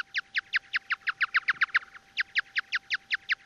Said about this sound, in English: The sounds have been slowed down so the human ear can hear them. As a bat is flying around, it's constantly making chirps and listening for the echoes.